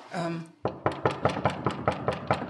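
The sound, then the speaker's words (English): A brief voice sounds, then a quick, steady series of about eight firm knocks on the office door of the company Oasis, a suspected fake office, evenly spaced and fairly loud, with a hard wooden thud to each rap. “If If you don't mind, I'm going to knock on the door and just see if there's anyone here today.”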